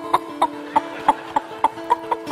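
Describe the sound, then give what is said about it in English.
Chickens cluck in a quick, steady rhythm, about nine short clucks evenly spaced, clear over a constant low background hum, with no voices. “I hear the sounds of chickens.”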